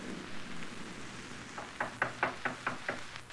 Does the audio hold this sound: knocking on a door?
yes